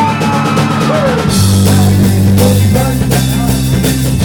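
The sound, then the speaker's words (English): A large audience at a sing-along lets out a loud, sustained 'Home Alone' scream together, building sharply after a moment and holding for several seconds over a steady low musical drone. “Now a big Home Alone scream.”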